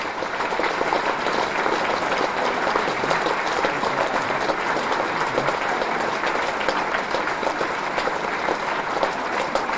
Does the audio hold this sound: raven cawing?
no